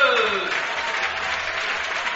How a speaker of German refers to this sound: Applaus für die Mädels!